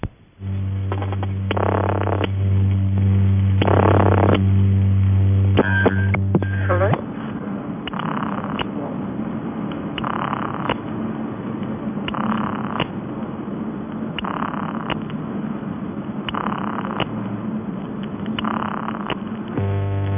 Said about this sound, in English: Examples follow of the Post Office UAX5 and a 200-line PAX, both of these tones being vibrator-produced, and also the ringing tone on a large railway PAX using 50 Hz mains hum but timed by interacting relays.